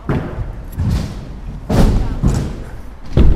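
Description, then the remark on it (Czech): Repeated heavy thuds of kick scooters landing on a skatepark ramp, four or five impacts spaced irregularly, with a low rumble of rolling wheels between them and faint voices in the background. “Rány, které se ozývají ze skateparku, dělají čím dál populárnější koloběžky.”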